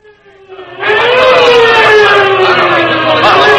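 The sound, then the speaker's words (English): A police squad car siren wails, rising to full volume within the first second and then holding a loud, slowly gliding tone over a low engine rumble, with no talking. “Well, thank goodness that squad car picked us up as soon as it did.”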